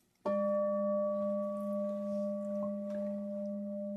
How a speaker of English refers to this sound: it's a really interesting thing about the bell ringing